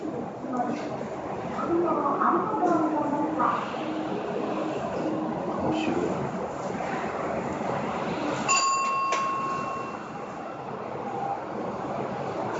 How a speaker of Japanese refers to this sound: 今ちょうど入れられた車がエレベーターみたいなのに乗って、おお、すっごい地響き。